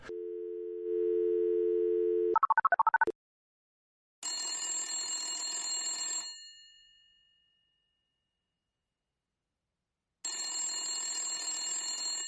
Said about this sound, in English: I'll have to ring him up. I've got his fake phone number right here to call him on the fake phone. So here I go.